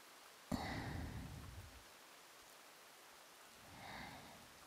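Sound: rain falling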